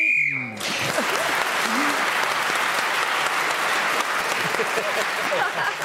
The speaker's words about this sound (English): As you probably guessed, Sheila Hancock speaking as the whistle went, gained that valuable extra point.